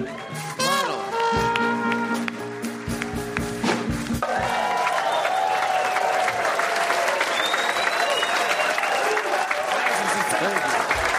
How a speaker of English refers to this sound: All right, listen. Did you sweeten that applause? No, we didn't. No. Oh, my God. Yeah, that's natural.